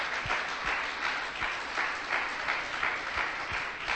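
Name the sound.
audience clapping hands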